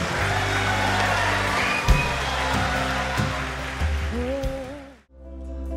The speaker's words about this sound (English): And as they do, church, would you give them a huge, huge, huge well done? Come on, we can keep cheering.